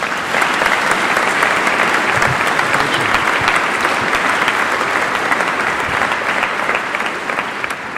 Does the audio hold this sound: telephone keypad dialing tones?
no